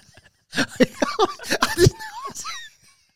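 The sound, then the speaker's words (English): A man coughs up sweeteners in a quick run of harsh bursts, then trails off into a few squeaky, wheezing breaths before going quiet. “just coughing up his sweeteners.”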